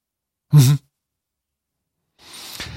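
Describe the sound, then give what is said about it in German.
Breathing comes over a phone line: a short, voiced, sigh-like exhale, then about a second and a half of silence before a longer, softer, airy breath starts. “Hallo, ja, wir hören dich atmen.”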